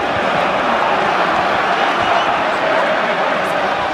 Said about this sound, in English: The crowds are noisy but well-behaved.